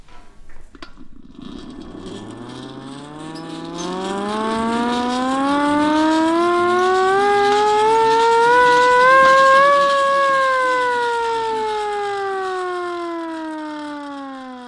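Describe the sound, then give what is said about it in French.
A small hand-cranked siren winds up from a low growl to a loud, steady wail over several seconds, then begins to sink back down in pitch, sounding alone. “Non, c'est une sirène à manivelle.”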